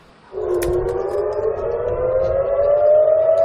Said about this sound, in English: The sirens are all too routine outside Sheba Hospital, as is outgoing missile defense, hunting incoming Iranian missiles.